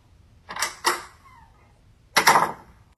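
A door opens: two sharp clicks of the latch, a faint brief creak, then a louder scraping thud as it swings or slides. No one speaks.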